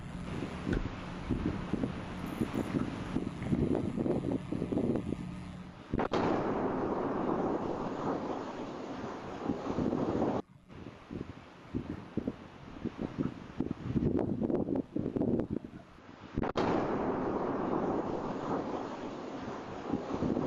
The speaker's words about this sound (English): here is actual audio of the explosion going off.